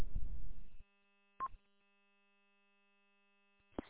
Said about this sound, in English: Did you just have a timeout timer there real quick?